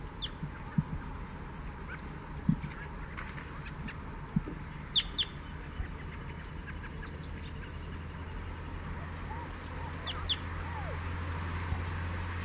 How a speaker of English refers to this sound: Here he comes. Flying lower again, going to a nearby pine. Stop. Chittering on the way in. Perched in the pine immediately behind the net. Chitter.